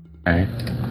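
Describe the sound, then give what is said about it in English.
A single loud, buzzy fart from a cat, lasting under a second, with a rough tonal rasp that trails off abruptly; no talking over it. “Was that a fart? Yes, it was.”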